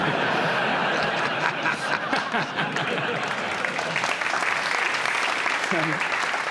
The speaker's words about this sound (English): can I just say, what a hurtful round of applause.